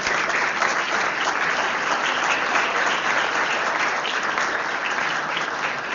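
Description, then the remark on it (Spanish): Sustained applause from an audience for a teacher of the company fills the whole stretch, a dense, steady wash of many hands clapping at an even loudness with no voices standing out. “Maestra María Elena Márquez, un aplauso para nuestra maestra también de la compañía.”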